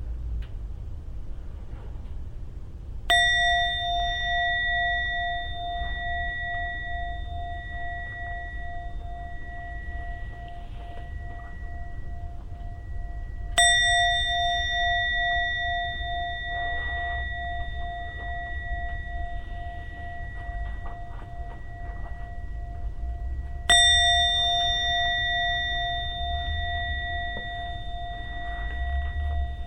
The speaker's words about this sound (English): I'll be ringing to gong 3 times for you to slowly come out of your meditation.